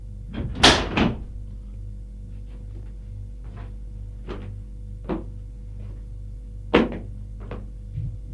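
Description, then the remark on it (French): A woman shuts a window: a loud double knock of frame and latch, fainter clicks and rattles after, then another sharp thud, all over a steady low hum. “Elle referme la fenêtre.”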